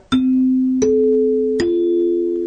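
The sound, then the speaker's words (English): Three chime notes ring out one after another at an even pace, struck by hand with a mallet in a radio museum to imitate broadcast station chimes, each with a sharp attack and a long, clear sustain that blends into the next. “You did that yourself with a mallet. That's right. We don't have a set of the electronic Ranger chimes.”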